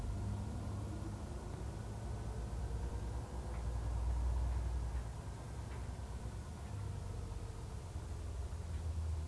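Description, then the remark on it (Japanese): A bus's engine rumbles steadily, swelling briefly as it pulls away from a stop, with a faint rhythmic ticking like a turn signal running over the low drone. No one speaks. “発車します。ご注意ください。”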